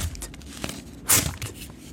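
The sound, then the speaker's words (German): A mouth imitates paper tearing: one short, loud, hissy rasp that surges bright and ragged, then trails off, with faint scuffing sounds before it and no talking. “Also es klingt wie ein Papier zerreissen. Aber ich zerreisse es nicht.”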